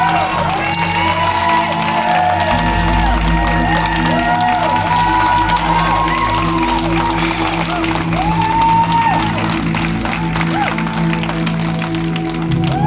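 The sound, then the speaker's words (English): A large crowd claps and cheers loudly and steadily for a woman, with whoops and shouts rising over dense, continuous applause that fills the whole stretch. “I want you to clap for her like they would in heaven.”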